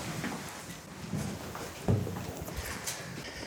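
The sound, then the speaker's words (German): A key that has been handed over rattles in the lock of a tightly locked door, then a latch clunks and the door swings open, with one sharper thump midway. The sounds are moderately quiet over a low background rumble. “Da wird uns ein Schlüssel gereicht. Dankeschön. Die Tür ist sehr gut verschlossen. So, und jetzt kommen wir durch.”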